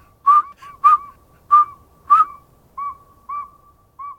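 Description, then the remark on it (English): A northern saw-whet owl gives a steady series of about seven short, clear whistled toots, evenly spaced at a brisk pace, alone against a quiet night background. “This nighttime whistler's a northern saw-whet owl.”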